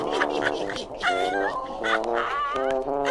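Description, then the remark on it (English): A human voice imitates animal calls, a drawn-out gliding howl followed by a whiny meow, sung close and fairly loud in a string of wavering, pitch-sliding cries. “I'll bray. I'll howl. I'll crow. And I'll meow.”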